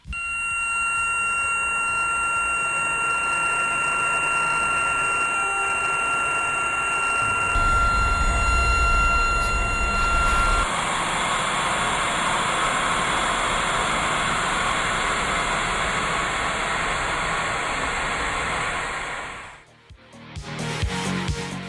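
An electronic sonification of bacterial voltage signals in a sound installation, the voltages governing the sonic parameters: steady high whistling tones over a dense hiss, a deep rumbling swell in the middle, and an abrupt cutoff near the end, with no voices.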